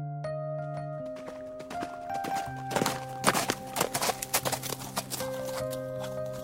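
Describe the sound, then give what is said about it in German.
The hooves of a horse pulling a sleigh clip-clop in a steady rhythm, growing louder partway through, with sustained musical tones playing underneath and no talking. “Tati, der Pferd mit den Schlitten sind du. Wir können schon rausgehen.”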